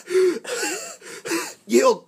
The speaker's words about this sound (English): The orb blips, and Muro wakes up. Where's Muro? He's over here. Okay. He gasps for air.